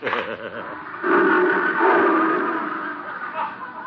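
Leo, a big lion, roars loudly in a long, rough, drawn-out bellow lasting several seconds, preceded by a shorter wavering growl at the start.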